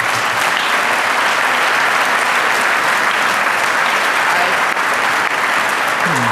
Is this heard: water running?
no